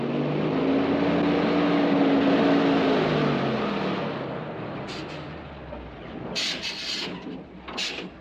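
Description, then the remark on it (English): A car engine drones loudly with a steady hum, then winds down and cuts out as the motor dies, leaving sharp bursts of hissing in the quiet that follows. No voices. “I'm sorry, but my motor died and I don't know anything about cars.”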